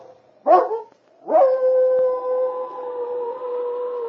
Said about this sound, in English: She bared her teeth in a snarling growl, and then she stood her ground. An instinctive fear moved through her body, and she raised her head to give forth a long, wailing howl.